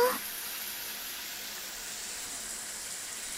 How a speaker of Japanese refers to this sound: シャンプー完了です。そのままじっとしててくださいね。シャワーで泡を流しますから、目をつむったままですよ。行きますよ。